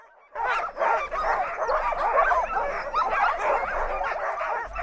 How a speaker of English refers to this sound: As they get lined up, some dogs are borderline screaming in anticipation, while others are jumping up and down.